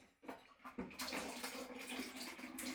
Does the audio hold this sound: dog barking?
no